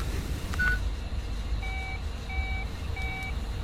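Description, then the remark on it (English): Three identical electronic two-tone beeps sound at an even, steady pace, like keys pressed on a touch-tone phone, over a low rumbling background, with a brief single tone just before them. “That phone number is our only clue.”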